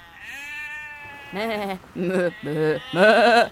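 A sheep bleats several times in close succession, a quavering drawn-out cry followed by four shorter wavering bleats, loud with no other sounds around it.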